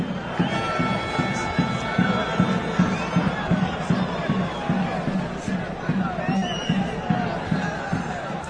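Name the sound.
football crowd shouting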